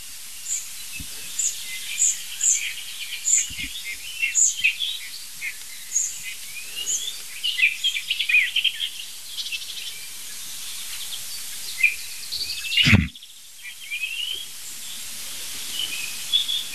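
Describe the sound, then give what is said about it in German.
A nightingale sings a rich, varied run of clear whistles, sharp chirps and rapid trills over a soft hiss of insects, with a brief thump breaking in near the end. “Nein, das ist die Nachtigall.”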